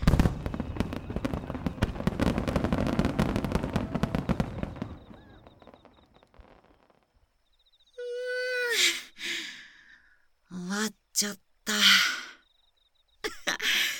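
A dense barrage of fireworks bursts, crackles and pops rapidly for several seconds at the finale of a fireworks festival, heard from far away, then fades into quiet. A few breathy, sighing vocal sounds follow.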